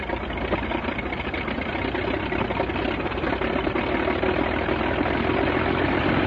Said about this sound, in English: This engine is a 180 horsepower Mercedes six-cylinder engine, the most famous of all the aircraft engines used by the Germans during World War I